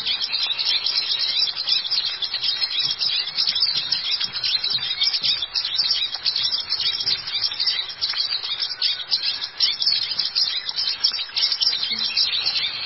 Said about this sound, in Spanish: Entonces aquí va primero el picocono.